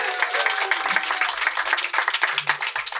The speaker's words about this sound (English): And we're, of course, joined by our wonderful audience here in a tent where it's not raining in Wales. Miracles. To the people at the Green Man Festival, give yourselves a big round of applause.